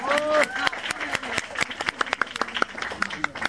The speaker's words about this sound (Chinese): 直接给我一点掌声好了。